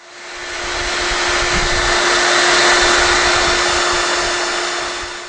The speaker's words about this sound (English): Now the next thing I'm going to do is I'm going to take a hair dryer and dry these out completely and then pull the magnet off and drop them on a sheet of paper so we can see them in the final detail.